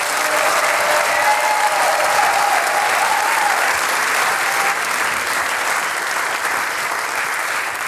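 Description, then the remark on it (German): Sustained applause from a large audience for the 2025 harmonica competition winner, steady and loud for the whole stretch, a dense wash of clapping with a few faint cheers or whistles early on and no speech over it. “Einen riesigen Applaus noch einmal für den Harmonikasieger 2025”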